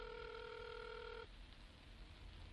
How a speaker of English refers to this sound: Roald went into the living room and keyed Henry's number into the home phone. He put it on speaker and set it on the coffee table.